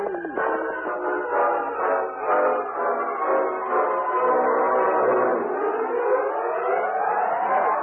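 A distant train whistle, heard at a small new depot in Silverton, sounds as one long, loud, chord-like blast, its tones wavering and sliding slightly in pitch for several seconds without a break. No one speaks.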